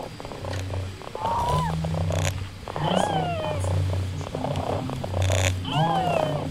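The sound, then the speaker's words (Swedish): A robotic toy cat being petted at a small robot exhibition at a conference of Örebro University purrs with a low, steady, motor-like rumble while short synthetic meow-like chirps rise and fall over it every second or so, fairly loud. “Och jag gör som hemma. Jag klappar katten.”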